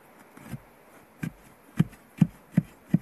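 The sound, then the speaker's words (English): A metal soil probe rod, pushed in at a shallow depth, strikes buried wood root about six times, each a dull, low thud with no ringing, coming faster toward the end against a quiet background. “See, it's like a thud, but it doesn't have the dink. See, and I'm not very deep.”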